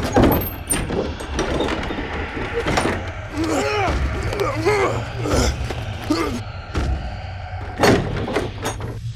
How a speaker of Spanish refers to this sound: La puerta de nuestra habitación, una habitación celda, se abrió de golpe donde los arrojaron.